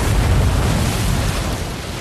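A giant molasses storage tank bursts with a loud, deep explosive rumble that fills the whole two seconds, a steady roaring blast with heavy low-end weight and no voices, at half past noon on a cold but sunny day, 15 January 1919.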